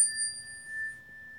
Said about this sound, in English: That made me think of when we purchased our wooden chime instrument that we have as well. Absolutely. And I'll do a demo for you all now. Doesn't that sound so beautiful?